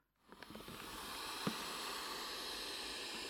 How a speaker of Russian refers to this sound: Подул ветер.